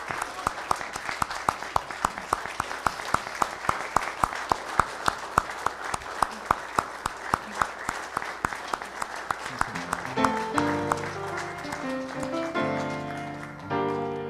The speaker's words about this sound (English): Let's have a, give him applause, please.